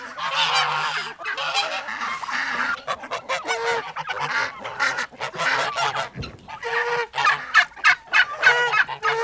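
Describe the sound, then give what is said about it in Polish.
A turkey hen calls repeatedly, loud, raspy yelps in quick bursts with brief pauses, among chickens, ducks, geese, turkeys and guinea fowl adding to the steady clamor. “Tutaj słychać panią indyczkę.”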